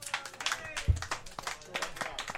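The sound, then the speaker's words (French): Scattered hands clap from a small audience of people who like Oscar Wilde, a quick irregular patter of sharp claps lasting a couple of seconds, with voices chattering over it. “C'est des gens par applaudissement qui aiment Oscar Wilde.”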